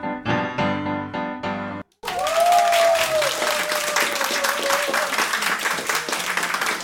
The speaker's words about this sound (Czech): Jenom doufám, že můj mikrofon přebírá ten obrovský potlesk v Radiokafe Vinohradská 12, který patří ….